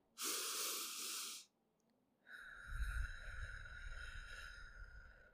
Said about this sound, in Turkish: O yüzden şimdi derin bir nefes alın.